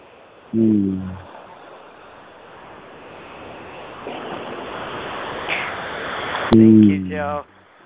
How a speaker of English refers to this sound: We can really hear the waves coming in. It's lovely to hear that in the background, knowing that it's really, really the sea. I mean, it's really the ocean that we're hearing, not just, you know, some recording.